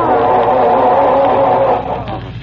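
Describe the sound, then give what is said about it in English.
A car engine cranks and grinds without catching as someone tries to start the car, a loud, steady churning that runs on for a couple of seconds before easing off slightly at the end, with no talking over it. “I'm trying to get this dad-ratted car started, if you must know.”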